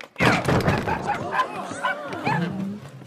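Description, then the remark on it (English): A puppy barks in a quick run of high, yappy barks mixed with whiny yips, fairly loud, continuing for a few seconds. “Oh, you got a puppy?”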